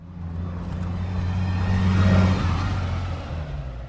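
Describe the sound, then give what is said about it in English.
A heavy bus engine rumbles and revs up, growing louder to a peak before easing off as the vehicle pulls away, with a steady low drone throughout and no voices. “Do not tip the bus over. Leave the bus alone. Get off the bus and go and look at the webpage.”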